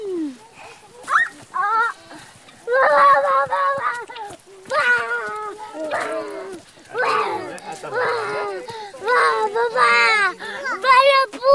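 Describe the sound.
Hens cluck in a steady run of short, rising and falling calls, with people's voices mixed in at times.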